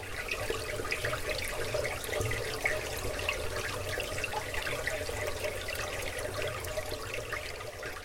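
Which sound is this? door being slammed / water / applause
water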